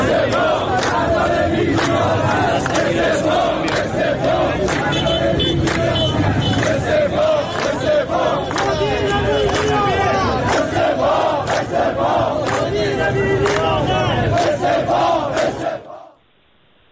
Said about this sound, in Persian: دقایقی پیش خبرگزاری مهر اعلام کرد که علیرضا زاکانی شهردار تهران در جمع رانندگان شرکت واحد اتوبوسرانی تهران حاضر شده. ظاهرا رانندگان با این شعار از آقای شهردار استقبال کردند. بشنوید.